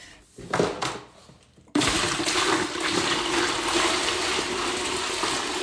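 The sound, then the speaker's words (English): A few quiet thumps and shuffles, then a sudden steady rush of rainwater from buckets being poured into the tank behind a toilet in a master bathroom, loud, continuing without break to the end. “It takes about 2 gallons to flush a toilet, and we go ahead and put it into the tank behind the toilet.”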